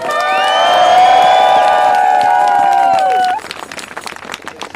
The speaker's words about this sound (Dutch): Ik laat haar nu aan het woord. Hartelijk applaus